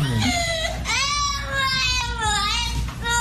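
A pet parrot named Nico screeches in a tantrum, its loud, wavering wails sounding much like a crying child, broken into three or four long cries with brief catches of breath between them.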